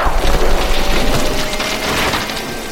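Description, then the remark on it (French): A large pine tree, being cut down, cracks and falls to the ground: loud, dense splintering and crackling of wood over a low rumble, sustained for a few seconds with no voices. “Le grand pin sur lequel se trouvait la chouette était désormais à terre.”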